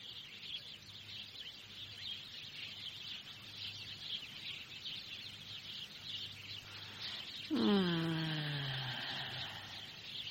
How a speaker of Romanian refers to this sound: Soarele ăsta și păsărelele astea mă scot din papuci, tăceți odată, eu vreau să dorm.